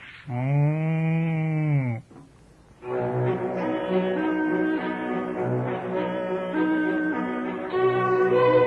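A cow called Burenka gives one long, loud, drawn-out moo that lasts over a second, followed after a brief pause by a steady, tonal backdrop that continues to the end.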